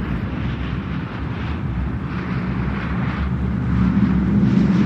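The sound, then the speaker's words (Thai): A steady, heavy roar of a large airplane's engines builds gradually louder as it takes off from Phnom Penh bound for Thailand on a hot, sultry April afternoon in 1995 (2538 B.E.), a dense low rumble filling the background with no voices. “เหตุเกิดเมื่อบ่ายวันหนึ่งที่อากาศร้อนอบอ้าวในช่วงเดือนเมษายนปี2538เครื่องบินลำใหญ่ได้ทะยานขึ้นจากพนมเปญมุ่งสู่ประเทศไทย”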